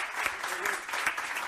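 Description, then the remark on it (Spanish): Steady applause from an audience, a dense wash of many hands clapping at an even level throughout, with no pauses or swells. “Gràcies pels aplaudiments, gràcies.”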